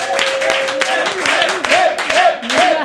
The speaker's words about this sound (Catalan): Com que sempre va bé tenir de bones un venedor d'assegurances que pot entabanar fàcilment, doncs rebem un fort aplaudiment